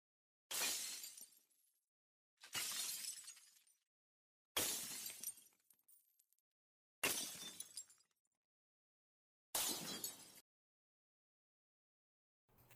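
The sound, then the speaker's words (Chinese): A glass artwork shatters loudly five times in a row, roughly every two seconds, each sharp crash trailing off into tinkling shards, with a sixth break just starting at the end. No one speaks. “很美，就像玻璃工艺品受到打击以后不断破碎的那种声音。”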